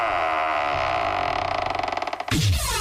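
A heavy metal vault door groans open in one long, loud creak that slowly stutters into rapid grinding pulses before ending with a deep, resonant clunk. No voices are present.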